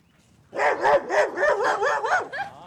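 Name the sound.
sheepdogs barking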